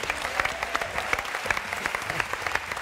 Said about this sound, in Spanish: A su derecha, David Fernández, el saxofonista de …. Un aplauso para él.